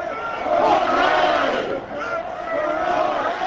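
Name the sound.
baseball stadium crowd cheering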